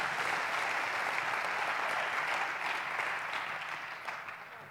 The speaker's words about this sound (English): Give these guys a hand. Bless you, man. Thanks, guys.